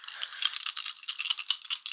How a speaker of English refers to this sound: Oh shit, this dice being rolled.